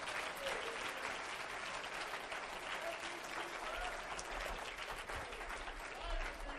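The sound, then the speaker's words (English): An audience claps their hands to bless God's name in steady, dense applause for several seconds, a continuous crackling wash of many hands at an even, fairly loud level. “Let's clap our hands into it and bless his name.”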